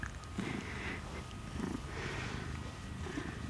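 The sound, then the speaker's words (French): Steady, low rumbling cat purr from a purr box toy that vibrates with each purr, rising and falling in soft breathy cycles roughly every second, fairly quiet, with no voices. “C'est une boîte à ronrons. À chaque qui ronronne, ça vibre.”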